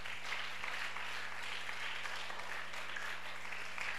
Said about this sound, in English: Then you can go and sleep. Is it a good idea? Yes. Clap for Jesus.